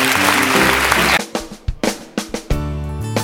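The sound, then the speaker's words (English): An audience gives the Lord a hand clap together in a dense burst that thins into a handful of separate, sharp claps, with steady low musical tones sounding underneath and returning at the end. “If you meant it, give the Lord a hand clap today.”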